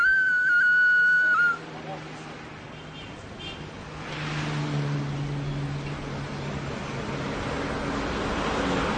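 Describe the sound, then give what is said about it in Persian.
A toy whistle gives one loud, shrill, steady blast lasting about a second and a half, then cuts off, leaving a low, continuous rumbling background noise. “مجید یه سوت سوتک برمیداره.”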